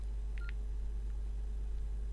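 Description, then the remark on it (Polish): A single short electronic beep as the pencil key and right-arrow key are pressed while editing a note in software, followed by a couple of faint soft clicks, over a steady low hum with no one talking. “Naciskam ołówek i strzałkę w prawo. Nic się nie dzieje.”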